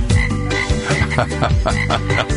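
Several frogs, the Budweiser Frogs of a Budweiser beer commercial aired at Christmas time, croak loudly, their deep, rhythmic calls overlapping in a steady chorus with no talking.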